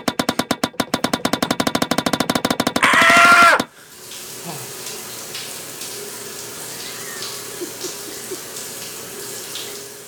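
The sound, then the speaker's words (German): Water runs from a shower set up on a tennis court, with a fast, rhythmic pulsing for a few seconds, then surges into a brief loud gush, then cuts to a softer, steady hiss with faint scattered sounds. “Es ist, dass die auch direkt hier auf dem Tennisplatz eine Dusche hingestellt haben.”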